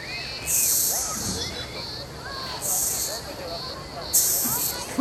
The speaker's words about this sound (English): Can you hear that hiss, though? It makes that sound by rubbing its abdomen and wings together. Let's listen. It hisses like that when it's disturbed.